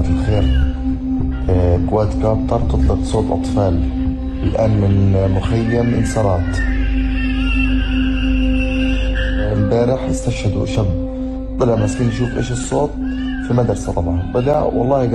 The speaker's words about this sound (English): I'm never going to forget the sound of a drone emitting a crying baby so it can massacre children who come out of their homes.